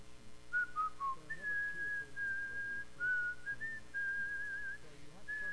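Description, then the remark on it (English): A man in Romania whistles the slow hymn melody Blessed Assurance, a few short notes leading into long, steady held tones, clear over a faint low background hum. “And he said, he's whistling Blessed Assurance.”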